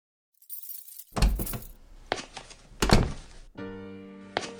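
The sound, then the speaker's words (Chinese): A home's door being unlocked and opened: a brief jingle of keys, then several heavy clunks of the lock and handle, ending in a long, steady, creaking drone as the door swings. “陈红和萌萌回到了家里，开门的瞬间看到了那一桌未动的饭菜”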